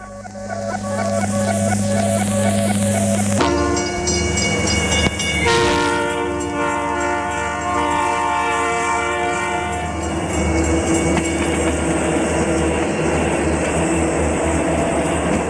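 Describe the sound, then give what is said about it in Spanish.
A fast train roars past below a station platform, which vibrates as it passes, its low metallic rumble giving way to a loud, piercing screech of wheels with sustained high tones and a steady rattling underneath, no voices present. “A distancia, el bajo estruendo metálico de un tren que marchaba rápidamente creció de repente, convirtiéndose en un agudo y penetrante chirriar de ruedas allá abajo.”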